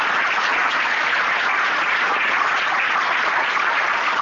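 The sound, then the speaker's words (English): Sustained audience applause for the candidates after a debate held at a library, a dense, steady wash of many hands clapping at an even loudness for several seconds, with no voices standing out. “They worked jolly hard attending numerous debates, and I'd like a round of applause for the candidates, please.”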